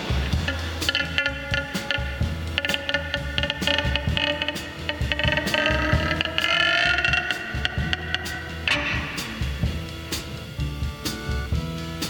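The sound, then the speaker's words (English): The door to a room creaks open slowly, a drawn-out, wavering groan with steady ratcheting clicks underneath, loud, lasting several seconds before fading into rattling mechanical noise. No one speaks. “And then she opens up the door to my room.”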